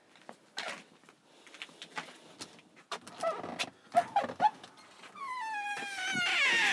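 A dog barks in scattered, irregular bursts, then breaks into a long, wavering howl that grows louder and fills the last couple of seconds.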